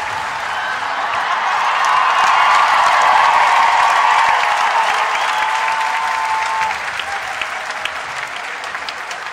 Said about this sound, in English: Give one more big applause for Sydney Symphony Orchestra. Thank you for staying all the way until the end.